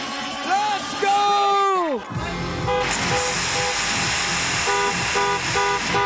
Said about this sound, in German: Gefeiert wird im Auto. Manche lehnen sich aus dem Fenster und reißen die Arme in die Luft. Andere nutzen dafür das Schiebedach. Und wenn der Drop kommt, dann wird gehupt.